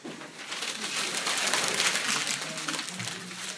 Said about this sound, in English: Take one piece of paper, pass it back, roll up the paper into a ball, make it a good tight ball.